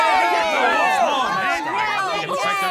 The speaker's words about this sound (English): Oh, I love to hear all the cheers from the crowd. And there's already so much excitement now.